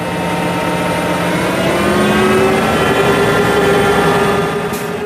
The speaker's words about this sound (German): Mit diesem Geräusch beginnt um 6 Uhr morgens der Arbeitstag von Patrick Gleich. Sie hören 140 PS, die einen Kartoffelroder von über 13 Tonnen ziehen. Mindestens.